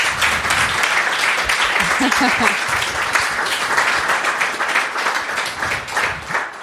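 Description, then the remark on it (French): Steady, sustained applause from an audience for the guest speakers fills the whole stretch, dense and fairly loud, with a few faint voices briefly audible beneath the clapping. “Eh bien, ouais, bravo, on peut déjà les applaudir.”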